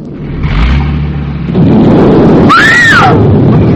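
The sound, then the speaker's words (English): A deep rumble swells into a loud, sustained roaring blast of an explosion sending a great ball of fire shooting straight up, with a brief high rising-and-falling shriek cutting through the noise near the end. “That wasn't thunder. Look! A great big ball of fire shooting straight up.”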